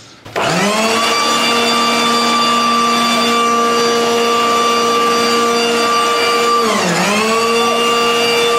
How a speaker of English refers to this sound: So I bought my hairdryer. Oh. Mm-hmm. So... That's not a hairdryer. Nope. Now that's a hairdryer.